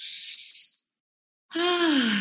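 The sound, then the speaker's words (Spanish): A person takes a deep breath: an airy inhale lasting under a second, a brief pause, then a long exhale that turns into a low, voiced, downward sigh. “Tomemos una respiración profunda, sacudimos el cuerpo.”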